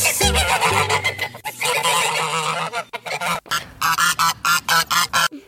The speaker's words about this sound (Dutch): Oh, wat is dit? Een flamingo. Oh, nee. Ik snap wel dat je dat zegt. Het lijkt wel een klein beetje op dat geluid. Maar het is het niet. Het is een gans. Ja, het is een gans inderdaad. Heel goed. Die klinken heel hard.